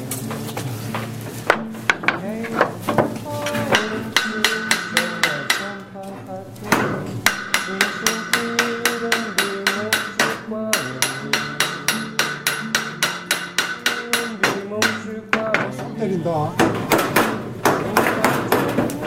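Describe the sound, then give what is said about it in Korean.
Rapid hammering with a hammer: dozens of sharp blows in a steady, quick rhythm, each with a bright ringing tone, pausing briefly before resuming, with faint voices in the background. “잠깐만 여기 망치 있는데 망치.”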